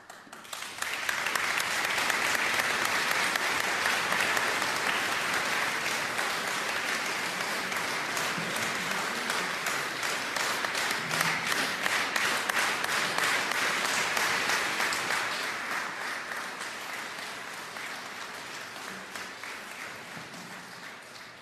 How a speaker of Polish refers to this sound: Księże proboszczu, te oklaski są wyrazem wdzięczności wszystkich pielgrzymów diecezji siedleckiej dla i księdza proboszcza i dla wszystkich parafian.